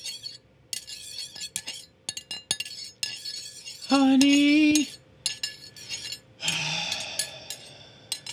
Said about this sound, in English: Can you please stop making that sound when you stir your tea? What, dear? Can you stop making that sound when you stir in your tea? Dear, I'm not making any tea.